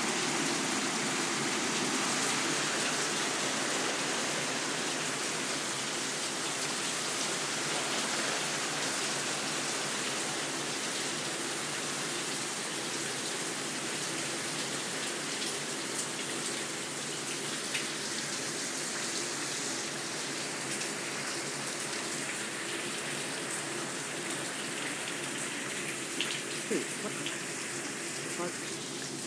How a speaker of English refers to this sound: and this is probably going to be a little loud, because this is rain hitting the patio roof.